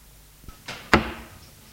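A bedroom door on the second floor of a house moves: a small click, a brief rushing swish, then a sharp wooden knock that rings and fades over about a second. No one speaks.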